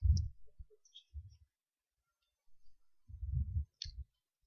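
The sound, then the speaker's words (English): Keys are handled, giving a few short bursts of clinking and clicking with brief pauses between them, and no one speaking. “Anybody got some keys that I could borrow just for a minute?”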